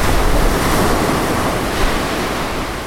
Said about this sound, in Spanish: Marejada. Estado del mar cuando la superficie aparece perturbada con olas de gran tamaño y fuerza que pueden alcanzar los 4 metros de altura. Esas olas se alejan del lugar donde se originaron y se propagan rápidamente hasta la costa.